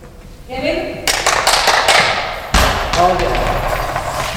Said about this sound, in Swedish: rullar den tunga bollen över gympasalsgolvet i Bäckomberga idrottshall. Bjällran i bollen skramlar och de tre barnen i motståndarlaget sitter ner på golvet och sträcker sig efter den.